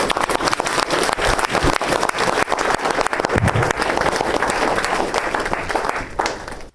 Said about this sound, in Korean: 선교사님 나오실 때 환영합니다 하는 뜻으로 박수로 감사님을 모시고 있습니다.